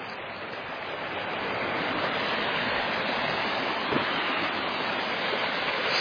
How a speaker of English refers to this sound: There's a waterfall with water.